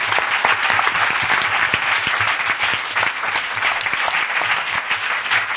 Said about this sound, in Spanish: Bueno, con esto vamos a dar por finalizada la sección, vamos a dar un aplauso a los compañeros.